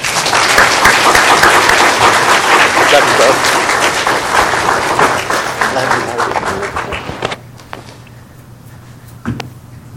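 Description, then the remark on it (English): An audience at New Hope Baptist Church claps together to praise the Lord and welcome new baptism candidates, in a dense, steady burst of applause lasting about seven seconds, with voices mixed in, then the clapping abruptly dies away, leaving quiet and one stray tap. “Today, and we can praise the Lord again through clapping, I want to welcome to New Hope Baptist Church”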